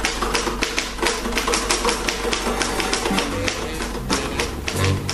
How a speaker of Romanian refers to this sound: Cum vrei, pe mine însă te rog să mă ierți, dar trebuie să termin de bătut o lucrare.